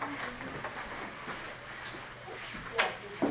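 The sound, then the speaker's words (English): A door is eased shut quietly, with a soft click of the latch near the end, against a steady background rumble and faint room noise. “Man, we did not slam the door.”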